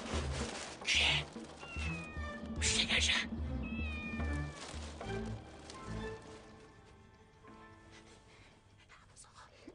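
A cat meows repeatedly, drawn-out wavering cries mixed with bursts of rustling noise early on and quieter, thinner meows trailing off toward the end.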